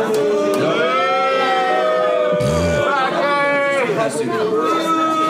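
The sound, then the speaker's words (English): An audience boos loudly, many overlapping voices holding long, drawn-out tones in a steady, continuous wash of jeers and shouts that lasts the whole stretch. “People all around are booing.”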